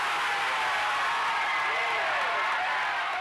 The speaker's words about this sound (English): It was several minutes before the cheering died down, but the former athletes here were still ecstatic about the decision.